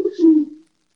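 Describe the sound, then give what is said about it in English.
A single short, low cooing bird call, clear, with a steady tonal hum that fades out after about half a second, followed by silence; the bird is heard through an open screen door, calling because it hears another bird. “So, like, the screen door's open, and this bird's tweaking out because it can hear another bird.”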